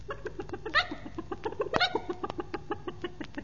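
A hen, Penny, clucks by a kitchen in a quick, steady series of short pulses, with a couple of louder squawk-like calls mixed in, with no talking.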